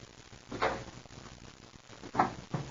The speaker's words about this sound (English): I'll open the door to the box in just a minute here.